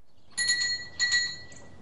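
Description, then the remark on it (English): A bell pull is yanked at the door of a large house, and the doorbell jangles twice in quick succession, bright metallic chimes ringing out clearly, followed by a fainter third tinkle as the sound fades, with no voices. “She yanks on a bell pull.”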